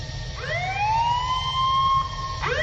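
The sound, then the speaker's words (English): A loud blaring alarm aboard a ship sweeps upward in pitch and holds a steady, piercing tone, then starts rising again just before the end, all over a low constant rumble. “Whatever her next words might have been, they were cut short by the blare of an alarm, followed by words that echoed throughout the ship.”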